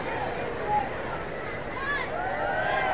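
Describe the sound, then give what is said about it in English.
A large baseball stadium crowd cheers as fans do the wave in the seating bowl, a steady, dense roar with scattered high-pitched shouts and whoops rising above it, swelling slightly louder toward the end. “They've started the wave down at the seating bowl. That's the cheer you're hearing.”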